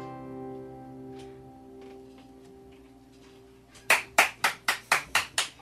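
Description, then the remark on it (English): A song's last sustained notes fade out, then about eight sharp hand claps ring out in a quick, steady rhythm, loud and distinct, with no voices. “Totally applaud you guys.”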